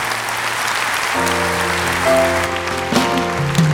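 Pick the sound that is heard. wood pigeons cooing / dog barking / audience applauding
audience applauding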